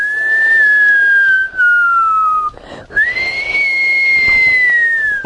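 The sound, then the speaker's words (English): A clear, sustained human whistle holding a steady tone, sliding slightly down, breaking briefly, then resuming on a higher note for another long held pitch. Loud, with no talking. “Just give a whistle.”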